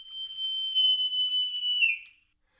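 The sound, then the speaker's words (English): A sloth's scream: one steady, piercing high-pitched whistle-like cry held for about two seconds, then dipping slightly in pitch as it fades out. No voices. “Okay, that was the scream of a sloth.”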